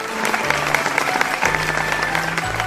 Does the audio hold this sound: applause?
yes